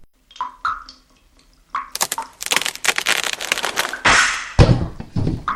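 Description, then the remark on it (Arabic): A few faint squeaks give way to loud, dense splintering of a wooden roof beam gnawed by two mice, then a heavy whooshing crash and a dull thud as a sack of wheat falls and lands, a big cat falling with it. “أجل أحبتي، بدأ الفأران بقضم خشب السقف أكثر، وفجأة انكسر الخشب وسقط كيس القمح، ومعه سقط القط الكبير على الفأرين.”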